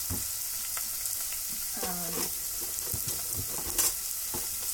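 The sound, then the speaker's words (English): Steady, crackling sizzle of food frying in a pot that previously held heating chicken stock, continuous, with occasional sharper pops and a brief clatter of a utensil midway; no one speaks. “The reason it's sizzling so much is because I already had some I previously had some chicken stock heating up in that pot, so it's probably just residual something or other that's frying up in the pot.”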